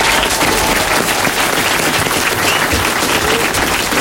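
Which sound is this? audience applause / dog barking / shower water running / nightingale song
audience applause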